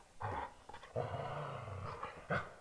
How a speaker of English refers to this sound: For those that are not watching the video, my dogs are wrestling beside me.